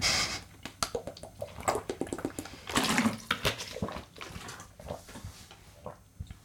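Someone takes a sip of water, with wet slurping and swallowing sounds, a brief louder gulp partway through, and small clicks and handling noises, with no talking.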